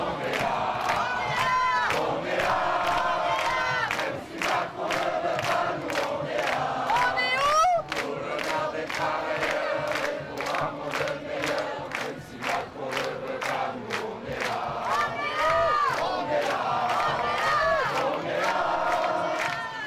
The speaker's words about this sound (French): Un habitant de la cité salue le cortège en agitant un gilet jaune à sa fenêtre. La foule lui répond par des cris de joie.